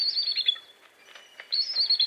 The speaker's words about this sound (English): Look high into the top branches of a tall tree, and you may see the source of this call, a bald eagle.